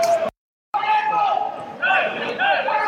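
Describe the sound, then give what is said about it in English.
A large crowd of Bromley football fans cheers and chants on the far side of a stadium during a match against Fylde, a dense roar with rising vocal swells, briefly cut to silence near the start before resuming steadily loud. “The Bromley fans are cheering over the far side.”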